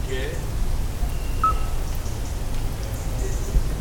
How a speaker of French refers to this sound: Crapaud accoucheur. Enregistré à la forêt tard la nuit, avec plein de démons qui volaient par-dessus nous. Okay. Des prises de risques inouïes. Tout ça pour enregistrer un crapaud accoucheur qui fait le bruit d'un synthé analogique.